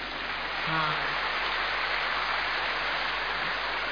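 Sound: audience applause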